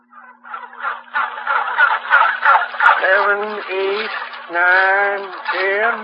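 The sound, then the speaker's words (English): A turkey gobbles: a rapid, burbling warble followed by several louder, drawn-out gobbling calls, heard alone over a faint steady hum. “How do you keep one of these turkeys quiet?”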